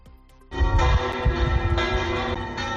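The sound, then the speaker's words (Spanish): Church bells peal loudly after a brief quiet start, welcoming the new Pope, a dense, ringing clangor of overlapping strikes with sustained metallic overtones and no voices. “No son las campanas de Luanco, que habían sido reparadas de urgencia para repicar a lo loco si el elegido era el cardenal Ángel Fernández Artime.”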